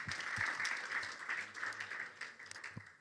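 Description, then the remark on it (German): A crowd applauds steadily for a few seconds, a dense wash of many hands clapping with a few sharper individual claps standing out, at a moderate, even level throughout. “Da kann man auch mal eigentlich einen Applaus geben, oder?”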